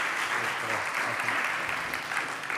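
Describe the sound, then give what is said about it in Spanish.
Steady audience applause welcoming a guest speaker, a dense crackle of many hands clapping at an even level throughout, with no voices rising above it. “Démosle un aplauso.”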